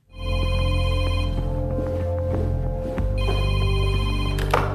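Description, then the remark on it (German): A telephone rings steadily and loudly in a film scene, before a phone call between Merkel and her office head Beate Baumann, its bright electronic tone sustained over a low hum, with a brief shift in the pattern partway through before the ringing continues. “Das Telefonat zwischen Merkel und ihrer Büroleiterin Beate Baumann zum Beispiel.”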